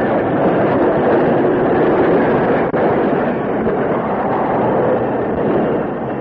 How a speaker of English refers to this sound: The engineer closed the throttle and applied the brakes.